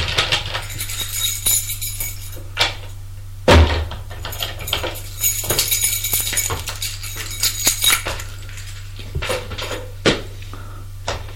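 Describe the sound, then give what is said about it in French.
A brown door on a stairwell landing is unlocked and opened: metallic clicks and rattling of a key in the lock, a solid clunk of the latch, then more light knocks and scrapes. No one speaks. “Il y a une plaque sur la porte qui est marquée dessus, Vincent Leroy. Ouvre la porte.”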